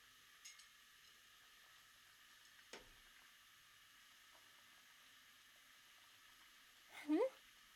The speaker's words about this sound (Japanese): 大根を切って、お鍋にお水を入れて、火にかけて、大根を中に投入っと。沸騰したら、お味噌を溶いて、